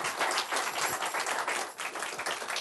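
A crowd applauds steadily for a program member, an Army veteran: a dense wash of many hands clapping at once, loud and sustained throughout with no voices over it.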